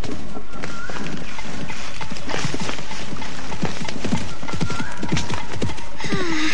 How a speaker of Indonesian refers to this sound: Suara langkah kuda menuju ke arahku. Oh, siapakah mereka? Akan kulihat.